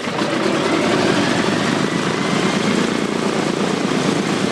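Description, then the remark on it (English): A loud, steady roar of the propeller engines of a B-17 Flying Fortress bomber, droning continuously with a rough, throbbing low rumble and broad hiss, no voices. “One of these so-called flying fortresses tours the country, taking veterans up for one last flight.”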